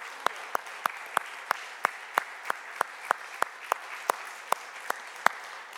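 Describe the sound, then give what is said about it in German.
An audience applauds God, a dense wash of many hands with sharp, louder claps landing in a steady rhythm about three times per second. No voices are heard. “Lasst uns jetzt mal richtig Gott einen Applaus geben für das, was wir erlebt haben.”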